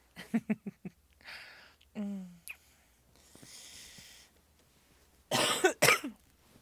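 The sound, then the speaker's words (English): A person coughs: a quick string of short hacks, a raspy throaty sound with some breathing, then two loud, harsh coughs near the end. “It's just a cough.”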